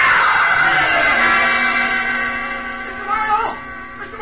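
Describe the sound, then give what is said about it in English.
A woman's scream rings out loud near a sulfur spring pool, one long piercing cry held for about four seconds, its pitch wavering and breaking slightly near the end. “Somebody screamed!”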